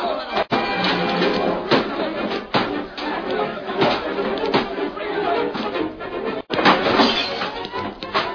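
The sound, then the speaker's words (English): A chaotic saloon brawl as gamblers wreck the Riggs place: a shouting crowd over repeated sharp crashes as guns blaze, the bar is overturned and chairs and tables are smashed, loud and continuous for several seconds with a few heavy impacts standing out. “Guns blazed, the bar was overturned, chairs and tables were smashed.”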